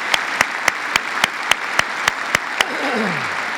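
A church audience applauds its leaders on the last Sunday of the year in a steady, dense wash of clapping, with about ten sharp claps standing out in an even rhythm before they stop and a faint falling tone follows.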